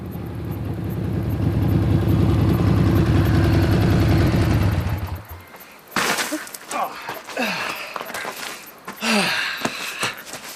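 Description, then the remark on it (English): A motorbike engine idles loudly with a steady low chug for about five seconds, then cuts out, followed by people talking. “Gunther Weber has given you a motorbike.”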